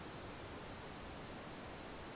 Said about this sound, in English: What's that noise in the background, that static noise? That's my oxygen concentrator.